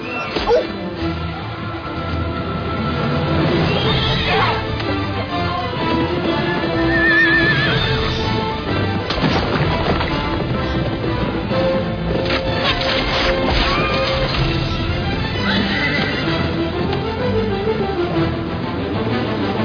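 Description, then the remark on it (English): A horse whinnies amid a busy, loud scene, with hoofbeats and commotion throughout; voices are mixed in under the animal sounds. “You're stealing my horse!”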